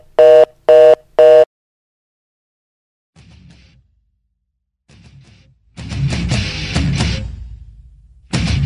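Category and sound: signal or alarm, telephone line tone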